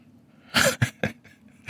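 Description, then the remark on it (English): An explosive sneeze bursts out, followed by a few shorter, sharp gasping bursts in quick succession, with no talking around it. “All right. God bless you.”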